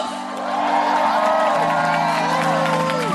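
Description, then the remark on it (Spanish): A loud crowd cheers steadily, with many voices whooping and shouting together and some clapping mixed in, sustained for a few seconds without a break. “Un aplauso fuerte para nuestros hermanos cubanos.”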